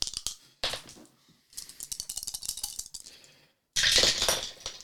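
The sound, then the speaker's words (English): Dice rattle and clatter in several bursts, tumbling across a hard surface in quick clicking runs separated by short pauses, with the last burst the loudest, as dice are rolled during a tabletop game. No one speaks. “And so that's going to give me 4 dice in total.”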